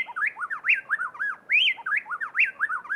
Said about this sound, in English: In Ecuador, plain-tailed wrens blend their voices so perfectly that it sounds to our human ears as if just one bird were singing.